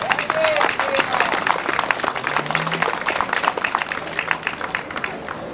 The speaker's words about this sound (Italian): Il sindaco, ecco, vi chiedo di fare un applauso per questo.